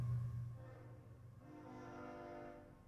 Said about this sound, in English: Ooh, y'all, here comes a train. Ooh.